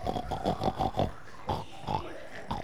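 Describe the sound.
Several children's voices make rapid, repeated oinking and snorting noises imitating a pig during a lesson, a quick burst of about six grunts followed by a few scattered ones, lively.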